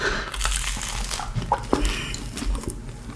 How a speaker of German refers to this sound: Ich beiß vom Brötchen ab und spreche mit vollem Mund.